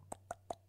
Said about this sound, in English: Can you hear that? Yeah. Was that you? What did you hear? Oh, just a phone vibrating. What did you mean? What did you mean? Oh, I might have to keep that in. I was going to cut it out, but that was not a phone vibrating. That was my stomach.